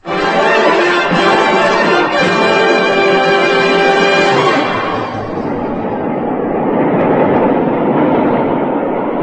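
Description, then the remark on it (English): A train rumbles steadily along the rails, loud, with a sustained metallic squeal for the first few seconds before settling into a broad, continuous roar. No one speaks. “You drag me onto a train and don't...”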